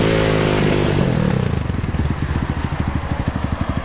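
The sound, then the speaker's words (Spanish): A city police officer's motorcycle engine drones at a steady pitch, then eases off and settles into a loud, rhythmic chugging idle as the bike comes to a stop in the street near a hospital. No voices are heard. “Arriba una guàrdia urbana amb moto.”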